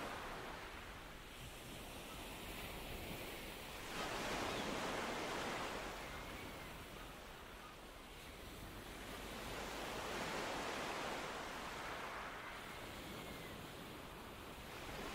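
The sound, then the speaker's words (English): Ocean waves of an outgoing tide wash in and out in slow, broad surges of hissing surf, swelling and fading in a steady rhythm with no voices present. “Close your eyes and listen to the serene music of the outgoing tide.”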